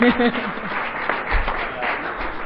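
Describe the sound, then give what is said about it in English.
An audience applauds at the end of a presentation, a dense, steady wash of clapping at a fairly loud, even level, with a brief voice audible at the very start. “We can go ahead and give the applause.”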